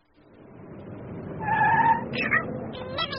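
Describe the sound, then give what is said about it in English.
A motor car's engine rumbles and revs while a woman tries to park it, shuffling about, with a brief high tyre squeal in the middle followed by more stop-start revving. “Oh, blimey, a woodlass trying to park a motor car.”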